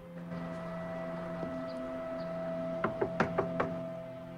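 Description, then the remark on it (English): Five sharp knocks on a front door, after its fly screen is opened, at the top of the steps to a front porch, in a quick, slightly uneven rhythm, rising above a steady low hum that runs through the whole clip. “She opens the fly screen and knocks on the front door.”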